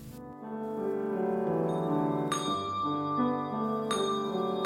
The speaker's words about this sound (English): The bells of St. Michael of All Angels Episcopal Church in Fort Bragg opened the Living Word Christmas video.